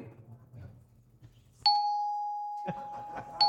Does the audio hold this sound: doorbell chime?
yes